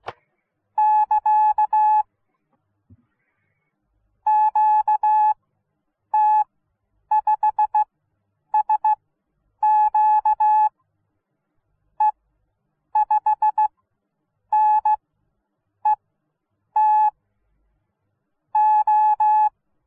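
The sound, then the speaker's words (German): High-speed amateur radio Morse code (a QRQ test at speed 40, nearly one minute) beeps in a steady mid-pitched tone, sent in rapid dense bursts broken by brief gaps, with no voices. “Und zum Schluss noch ein kleiner QRQ-Versuch mit Tempo 40, eine Minute.”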